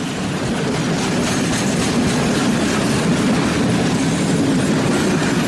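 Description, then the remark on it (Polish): A train rolls steadily along the tracks, its wheels clattering in a continuous, loud rumbling rhythm, with no voices. “Nagle gwizd, nagle świst, para buch, koła w ruch, jedzie pociąg z daleka, na nikogo nie czeka.”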